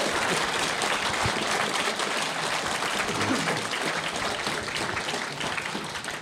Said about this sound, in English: please just give a round of applause to our audience. Thank you very much.